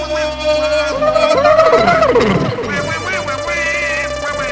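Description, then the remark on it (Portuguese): A loud, busy jingle of comical duck-like quacks and squawks sliding up and down over a steady thumping bass line, packed together for a few seconds with no pauses. “Olha a vinheta do pé de pato!”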